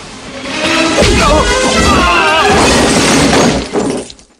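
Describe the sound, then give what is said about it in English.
A loud, sustained crash of breaking glass and clattering objects as two warriors are thrown into benches of lab equipment, with shattering debris ringing out for several seconds before tapering off abruptly. “Suddenly, two of them are thrown into benches of equipment.”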